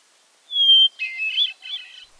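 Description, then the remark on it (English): A northern waterthrush sings a short, bright phrase: a clear high whistled note followed by a quick run of loud, chattering warbled notes, alone with no other sounds. “Get a good look at a northern water thrush”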